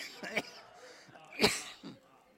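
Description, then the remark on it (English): Two sharp coughs with a rougher throat-clearing rasp between and after them, from a person struggling with a little cough in the morning, each a short harsh burst against a quiet background, and no clear speech. “Excuse me this morning, struggling with a little cough.”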